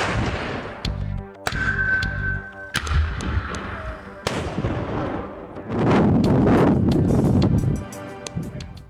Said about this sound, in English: In a video published by the department in 2015, crews fire artillery near Bird Creek as part of avalanche mitigation work.